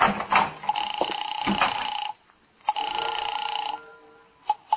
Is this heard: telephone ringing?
yes